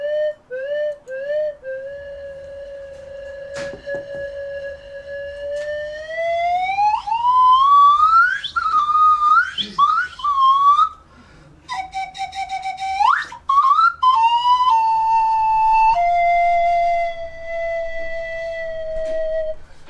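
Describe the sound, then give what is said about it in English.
A flute combined with a water reservoir plays a wavering, whistle-like melody with smooth upward glides, trills and bubbling warbles, shifting between held high notes and rapid chirps, loud and alone for about twenty seconds. “So what I'm gonna just show you in a bit is the combination of a water reservoir and a flute, and the water reservoir does actually make this sound different.”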